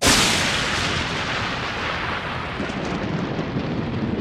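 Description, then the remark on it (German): A sharp, loud thunderclap from a lightning strike bursts in at once, then rolls on as a long, deep, crackling rumble that stays strong for several seconds and fades only slightly. No one speaks. “Wenn es so tut, dann kann man froh sein, wenn man daheim ist. Da ist man vor dem Blitz in der Regel geschützt.”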